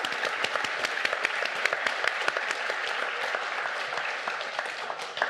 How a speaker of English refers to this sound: Okay, huge round of applause for these guys for going through that.